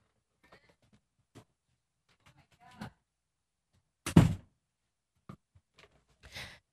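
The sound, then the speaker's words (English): A door is pushed shut with a solid thud, preceded by faint shuffling and a soft creak, then a few light clicks and a brief rustle as it settles. “Hang on, I'm going to shut the door here.”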